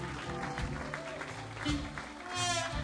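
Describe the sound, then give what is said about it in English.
A steady wash of clapping from a group keeps going for a few seconds, swelling slightly near the end, with some faint voices mixed into the noise. “Big round of applause for our own personal semi-truck.”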